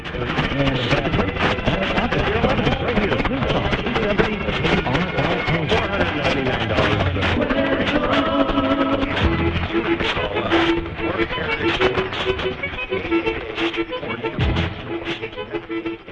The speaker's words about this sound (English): There's not much power there, and the signal is pointed away from us, as is the signal from Nevada on 870. You'll hear the two, KRLA, beating with the Spanish station in North Las Vegas.